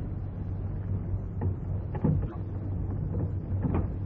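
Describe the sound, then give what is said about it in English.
A few metallic clicks and rattles, like a key turning in a lock, followed by the scrape and creak of a garage door being opened over a steady low hum. No one speaks. “Now let me try this key.”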